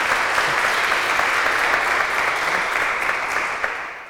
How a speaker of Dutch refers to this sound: En ik wil dat vragen aan jullie om met een applaus te onderstrepen. Ja. Bedankt. Dankjewel. Bedankt.